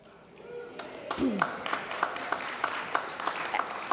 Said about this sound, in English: A hand of applause to all of you.